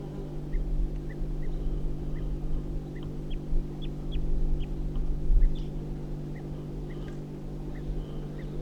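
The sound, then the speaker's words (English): Wild birds give short, sharp alarm calls, repeated irregularly throughout, over a steady low engine-like hum. “Getting alarm calls again.”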